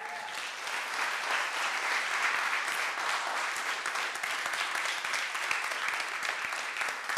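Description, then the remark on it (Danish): Sustained applause from a sizable audience for a gospel pianist, a dense wash of clapping that stays steady and fairly loud for several seconds, with no voices standing out. “Og jeg synes, vi skal klappe af ham.”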